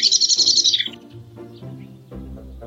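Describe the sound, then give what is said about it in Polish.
A blackbird gives a rapid, harsh string of high chattering alarm notes for about a second, loud, followed by quieter lower rustling and murmuring sounds. “Właśnie taki dźwięk wydają kosy, gdy są zaniepokojone.”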